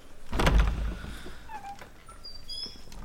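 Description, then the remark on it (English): A door opens with a solid latch clunk and a brief rattle, followed by a short squeaky creak of the hinges, with faint high chirps in the quiet background. “What are you standing there for? Open the door.”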